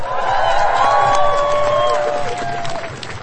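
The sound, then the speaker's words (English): A large crowd cheers and applauds loudly for a few seconds after a speech against the gender definition bill, with steady clapping under several sustained whoops and shouting voices that slowly taper off. “This is such a beautiful crowd.”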